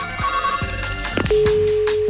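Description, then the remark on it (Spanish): A telephone rings in short electronic tones with bright steady pitches, followed by a sustained high tone, clear and fairly loud with no one speaking. “Suena el teléfono”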